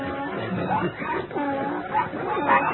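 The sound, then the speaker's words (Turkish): Several dogs bark and whimper together in a dense, overlapping commotion, fairly loud, with yelps and whines rising throughout the short burst, as they are ordered to seize the pig Snowball. “Köpek yoldaşlar, yakalayın şu mendoburdamuzu.”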